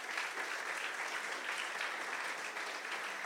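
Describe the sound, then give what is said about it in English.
A crowd at a church claps steadily and continuously, a dense wash of many hands at even volume throughout, with no voices standing out above the applause. “So can you give them a round of applause, please?”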